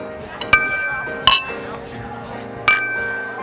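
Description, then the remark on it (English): Three bright glass clinks ring out one at a time as drinking glasses are touched together in a toast, each leaving a short shimmering ring over faint voices in the background. “Cheers. Cheers.”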